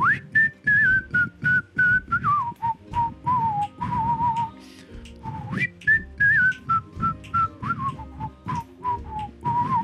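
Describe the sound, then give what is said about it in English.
A bright whistled tune plays over strummed guitar and steady percussive beats, its melody stepping down in two repeated phrases: the theme song of the TV show My Name Is Earl. “I'm assuming that was like the My Name Is Earl theme song.”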